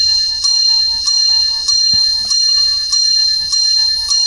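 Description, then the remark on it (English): Bells ring loudly in a steady, regular rhythm, about seven strikes spaced roughly half a second apart, each leaving a bright, sustained metallic shimmer, with no voices. “Muppets Christmas Carol divorce bells have reminded us to move on to.”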